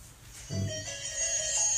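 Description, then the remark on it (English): A mobile phone ringtone plays in a temple, bright sustained electronic tones with a melodic shift partway through, moderately loud, with no one speaking. “Excuse me, I forgot to put my phone on.”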